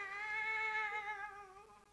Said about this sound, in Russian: Вы слышите? Это его кошка Аглая.